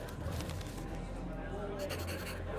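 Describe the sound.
A pencil scratches steadily across a paper pad in short, continuous strokes, moderately loud, as a left-handed man writes down what he saw as a witness, with a low background hum and faint voices.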